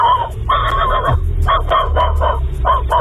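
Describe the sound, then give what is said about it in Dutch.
A man imitates a barking dog with a rapid series of loud, nasal yelps and barks in uneven bursts, with no other talking. “Maar wij waren het meest onder de indruk van deze, zijn hond.”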